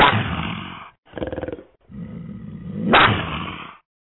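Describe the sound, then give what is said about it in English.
A woman imitates a big cat's roar as her signature cat call, in three loud, raspy bursts: a long growl, a short pulsing rattle, then a drawn-out snarl that swells to its loudest before cutting off. “that will always and forever be her cat call.”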